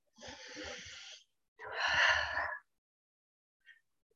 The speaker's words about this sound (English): Wonderful breathing.